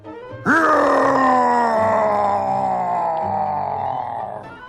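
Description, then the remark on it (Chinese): A single loud, drawn-out roar bursts in suddenly and holds for about four seconds, rich and harmonic, its pitch sagging slowly before it cuts off. “狮大王着急地大吼起来。”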